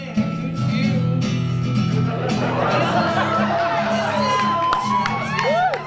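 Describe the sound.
A packed theater audience at an open projector night film screening chatters loudly, many overlapping voices blending into a steady murmur, with a few rising, excited whoops and shouts breaking through toward the end.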